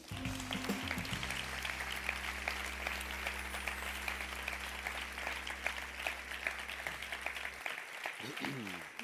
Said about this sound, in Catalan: Per això avui, abans d'entregar aquest premi, volem demanar un fort aplaudiment per la direcció de fotografia.